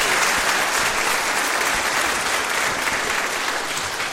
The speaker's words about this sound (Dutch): Nou, mag ik een applaus voor deze groep?